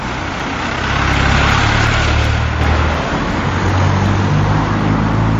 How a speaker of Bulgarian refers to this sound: На този фон рева на коли и камиони си е направо блажен ромом на поточе.